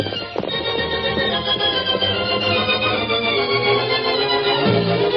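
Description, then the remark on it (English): The Lone Ranger's horse Silver gallops steadily through the night, its rhythmic hoofbeats mixed into a dense, continuous musical backdrop that stays fairly loud throughout, with no talking. “The Lone Ranger urged the great horse through the night.”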